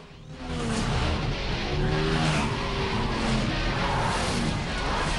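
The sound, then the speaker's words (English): Tires screech as cars skid hard to a stop while a motorbike passes them, long squealing tones over a loud, steady roar of engines and road noise, sustained for several seconds with no talking. “The cars skid to a halt as the bike passes them.”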